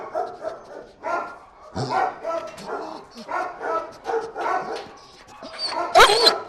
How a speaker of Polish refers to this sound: młody pies, pełen energii. Co on tu robi? To jest bardzo dobre pytanie, ponieważ jest to pies w typie Amstaffa. Młodziutki, energiczny, jeszcze plastyczny, do wyrobienia, do wychowania.